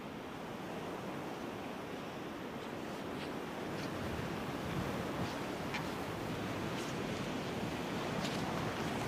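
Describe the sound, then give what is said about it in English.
A strong outdoor wind roars steadily and loudly for the whole stretch, a dense rushing noise that swells slightly midway. Nobody speaks. “Windy day.”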